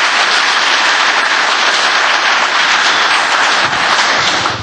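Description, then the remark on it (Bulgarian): Loud, sustained audience applause for world MMA fighter Stanislav Metkov, Veliko Tarnovo list leader of the Gorda Bulgaria coalition, fills the whole stretch, a dense crackle of many hands clapping at once with a steady, unbroken intensity and no voices standing out. “И сега вашите аплодисменти за световният ММА боец, за истинският боец на коалиция Горда България, водачът на Велико Търново Станислав Метков.”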